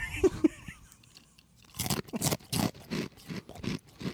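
Loud, wet crunching and chewing of Takis chips, a steady run of about eight sharp, crackly bites after a few quiet clicks and a brief pause. No one speaks.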